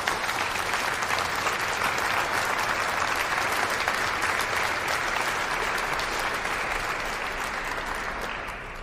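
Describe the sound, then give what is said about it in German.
Sustained audience applause for the jubilarian priests celebrating their ordination anniversaries, a dense wash of many hands clapping at steady volume for about eight seconds before tapering slightly at the end. No one speaks over it. “Ich bitte einmal um einen Applaus für alle Jubilare.”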